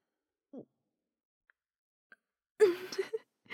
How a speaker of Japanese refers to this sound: シスター様のおなら、とっても臭いでしょ。でも、この臭い匂いが、悪魔は大の苦手なんです。だから、我慢して、シスター様の臭いおなら、たくさん匂ってくださいね。